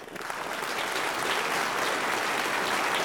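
Steady, dense clapping from a group, a continuous crackling wash of applause that holds at a fairly loud, even level for a few seconds with no voices.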